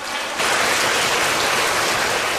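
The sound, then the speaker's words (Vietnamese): A round of applause breaks out after a brief quiet moment, a dense, steady wash of many hands clapping that holds at full loudness for about two seconds, with no voices over it. “Number one, cho một tràng pháo tay.”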